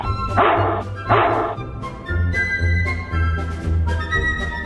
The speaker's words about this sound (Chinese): 一听到斯诺豹，所有的狗就会呲牙咧嘴地发出一阵咆哮，动物们都被彻底地吓坏了。